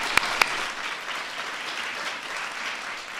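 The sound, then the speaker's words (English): A crowd applauds steadily for the Epicurious team, a dense wash of many hands clapping with two sharp, louder claps standing out near the start, sustained at a moderate level without any talking. “So thank you guys, and a big round of applause.”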